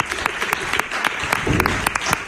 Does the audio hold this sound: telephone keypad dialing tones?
no